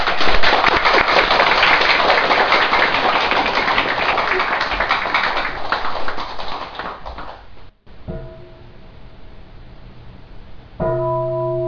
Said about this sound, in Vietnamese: Xin quý vị vỗ cho một tràng pháo tay.